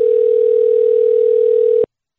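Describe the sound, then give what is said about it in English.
A phone ringback tone during an outgoing phone call: one steady, unbroken electronic beep lasting just under two seconds, clear and fairly loud, then cutting off to silence. No voices. “Oh, it's ringing.”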